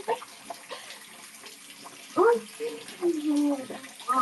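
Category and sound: household object, hot water running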